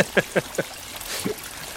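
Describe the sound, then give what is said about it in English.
Thick brown water slaps wetly onto a muddy floor outside a small hovel under the stars: three quick, close splats in an even rhythm, then a softer, messier splash as the sound trails off. “And the sound of thick brown water slapping on the muddy floor next to them.”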